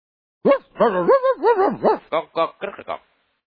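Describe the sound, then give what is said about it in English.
A person voicing a dog puppet during a Bible story imitates a dog with a run of loud barking and yelping sounds: a long wavering cry first, then several short quick yips, with no ordinary talk. “Then the dog would bark again.”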